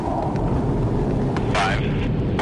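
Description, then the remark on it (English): A loud, continuous low roar of three F-18 jet fighters flying overhead at almost the speed of sound as they launch Perdix drones, a dense rumbling wash with brief muffled voice-like sounds partly buried beneath it. “This time, the Perdix will be launched from three F-18 jet fighters, just as they would on a real battlefield.”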